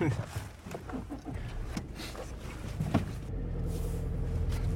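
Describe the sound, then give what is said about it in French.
A steady low engine-and-road rumble fills a car cabin while driving in light rain, with indistinct voices in the first few seconds before the drone grows slightly stronger and more even. “Alors c'est pas ma voiture, c'est la voiture d'un papa, donc voilà, il y a le boxon.”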